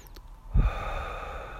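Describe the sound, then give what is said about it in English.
A single sharp, noisy breath drawn in and out through the nose while sitting still, starting with a soft thump and trailing off into a steady, airy rush. There is no talking. “You're just sitting there breathing.”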